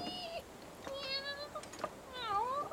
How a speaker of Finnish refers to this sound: Oi hyvänen aika. Kaksi kissan poikaa, mitä? Kis. Tännekäs te yritätte kiivetä tutkimaan ufoja mun kanssani, mitä?